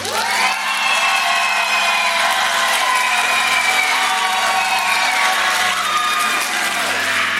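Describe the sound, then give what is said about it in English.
A large crowd cheers and claps steadily for several seconds, a loud continuous roar of voices with scattered whoops and shouts over dense applause, holding level throughout, as the audience cheers to choose the bad news first, its loudness measured on a decibel meter. “If you want the bad news first, I want you to clap or applaud or cheer right now.”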